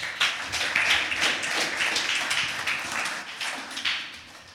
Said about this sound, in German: Auch nochmal ein großes Danke an unsere Band. Vielen, vielen Dank, dass ihr heute uns in Anbetung geführt habt. Wir können auch Ihnen gern mal einen Applaus geben.